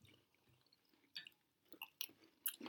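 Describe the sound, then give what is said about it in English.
Someone chews crunchy chocolate peanut butter cereal with milk, with a few irregular crisp crunches breaking out of a quiet background. Nobody speaks. “Have a lot of crunch to it and really peanut buttery flavor.”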